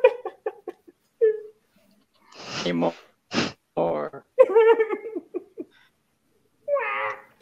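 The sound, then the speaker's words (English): Several drawn-out, cat-like meows, a person imitating a cat, come in short bursts between bits of talk, clear, with a final meow near the end. “just an ordinary kitty. Meow.”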